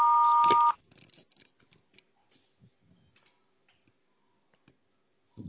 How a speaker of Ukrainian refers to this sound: Вас приветствует автоответчик. Оставьте сообщение после звукового сигнала.